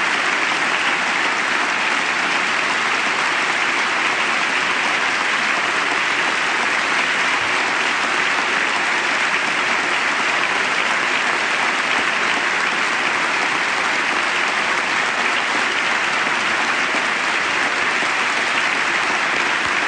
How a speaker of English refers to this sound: Sustained applause here. There are members of the Armed Services veterans from the wars in Iraq and I believe Afghanistan in the gallery along with the First Lady tonight in uniform, and they're getting the applause, a standing ovation